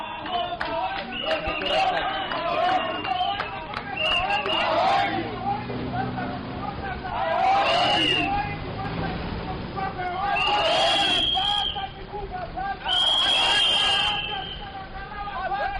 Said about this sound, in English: Close to 100 youths marched from Town House to the offices of the Zimbabwe Electoral Commission, chanting slogans and blowing whistles.